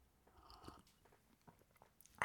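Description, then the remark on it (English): Mouth noises: faint lip and swallowing clicks, then a short, loud slurping sip of hot coffee at the very end, with no one talking. “So let me get a sip of this coffee here.”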